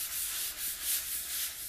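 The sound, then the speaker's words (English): A soft, hissing rub of a hand over the cover of the book Daughter of the Siren Queen, repeated in several smooth back-and-forth strokes with a bright, papery texture, quiet and steady, with no voices. “Also, Daughter of the Siren Queen is more floppy than Daughter of the Pirate King.”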